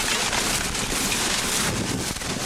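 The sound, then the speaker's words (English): A steady, dense roar of heavy rain and gusting wind from a 2006 storm on a dirt road among cornfields in Nebraska, loud and unbroken, with a broad hiss over low rumbling buffets and no voices. “It's absolutely downpouring.”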